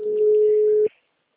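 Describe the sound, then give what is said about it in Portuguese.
A telephone line rings out with no answer: one steady, mid-pitched ringback tone holds for just under a second, then cuts off abruptly into silence. “Para de tocar. O número não responde.”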